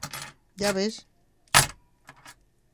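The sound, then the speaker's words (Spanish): Three keys rattle and clink as they are set down on a table in a few short bursts, with a brief voice-like sound in between. “¿Ya ves? Llave. ¿Tres llaves?”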